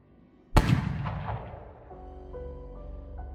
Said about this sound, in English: As the two of you head for the door, a gunshot rings out.